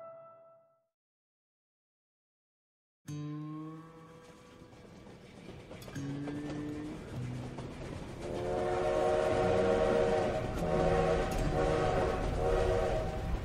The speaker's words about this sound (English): Imagine it's 1876 and you're riding the passenger trains from Chicago to San Francisco. The steam engine has rumbled through the Great Plains, wheeled up the Rockies, and descended onto the vast salt flats of Utah.